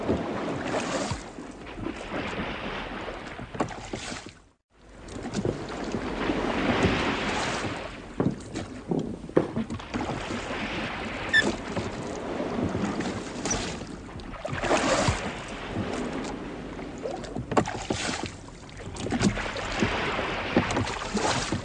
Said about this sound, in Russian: Она прыгнула в лодку, я за ней. И не успел еще опомниться, как заметил, что мы плывем.